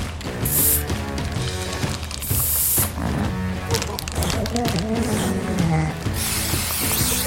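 Three short bursts of aerosol marker spray hiss, fairly loud, in quick intervals as seal pups are marked with blue and yellow marks for conservation work, over a busy background of music and mechanical clicking.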